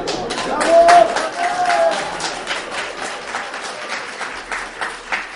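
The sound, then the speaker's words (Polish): An audience applauds with dense, crackling clapping that swells in the first second, then gradually thins and softens over the following seconds. “Dziękuję za ten entuzjazm, oklaski.”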